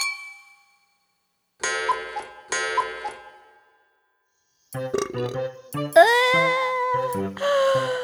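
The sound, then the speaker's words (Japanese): Two bright, ringing clinks of cups knocked together in a toast with premium daiginjo sake by the sea, each left to chime and fade, followed by a busier stretch of overlapping tinkling, ringing tones. “さ、コップを持て。乾杯だ。”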